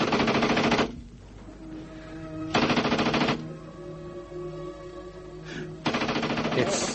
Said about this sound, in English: That second tank. It's using its machine gun.